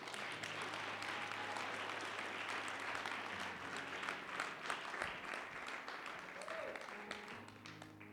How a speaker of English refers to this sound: Let's clap hands for Jesus today.